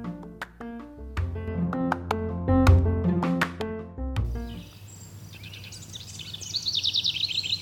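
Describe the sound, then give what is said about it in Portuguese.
A few seconds of plucked instrumental music give way to a bird singing on its own: bright, high chirps and quick repeated trills, clear over a quiet background. “Além, é claro, de ouvir também o seu lindo canto.”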